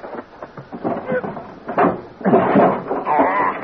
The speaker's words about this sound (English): In the baggage compartment. I go pull the door open. I got it. She's stuck hard. I'll give you a hand.